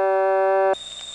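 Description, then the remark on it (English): A telephone dial tone from the Goldston telephone office, with a harsh, buzzy unbalanced power hum, holds steady and loud, then cuts off abruptly, leaving a quieter low hum with a faint high-pitched whine. No one speaks. “This is Goldston's dial tone and unbalanced power sound.”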